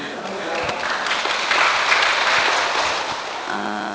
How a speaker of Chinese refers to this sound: 大家掌声说话，各位莲友，阿弥陀佛。